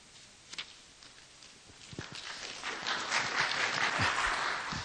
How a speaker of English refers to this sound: I'm glad you applauded for him.